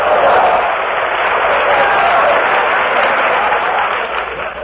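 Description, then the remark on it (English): Loud, sustained applause from a large audience at a Troop Carrier Command radio broadcast at Sedalia Army Airfield near Kansas City, Missouri, a dense wash of many hands clapping steadily for several seconds before tapering slightly at the end. “Stop beating that spam together.”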